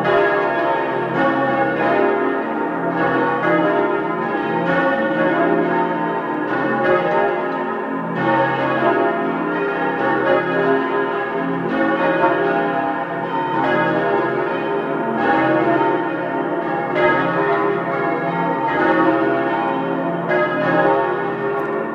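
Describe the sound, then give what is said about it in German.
The bells of the parish church of Blessed Father Rupert Mayer in Oberbozen, South Tyrol, ring at 12 noon, several bells pealing steadily and loudly, overlapping in a continuous, rich ringing with no voices. “Sie hören die Glocken der Pfarrkirche zum seligen Pater Rupert Mayer in Oberbozen in Südtirol.”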